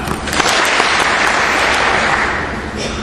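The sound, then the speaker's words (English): A crowd applauds on command, dense and steady clapping from many hands filling the space for a few seconds before easing slightly at the end. “Clap.”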